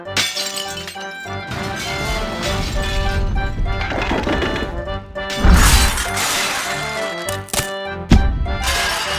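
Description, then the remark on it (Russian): A loud metallic crash as a samovar topples, followed by a sustained clatter and shattering of breaking dishes, with sharp impacts recurring near the end. Continuous, no voices. “Меньше чем через минуту раздался грохот упавшего самовара и звон разбиваемой посуды.”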